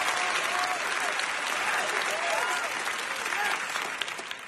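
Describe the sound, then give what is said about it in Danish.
Steady, dense applause from a crowd, a continuous clatter of many hands clapping that holds at full strength and begins to thin out only at the very end. “Det var bifald.”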